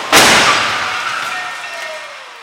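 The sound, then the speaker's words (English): A crash test impact of the redesigned X1 car at 40 miles per hour, with 39 sensors recording: one sudden, loud smashing hit, followed by a long, fading metallic ring and hiss that dies away over about two seconds, with no voices. “For the 17 seconds it takes to drag the X1 up to a speed of 40 miles per hour.”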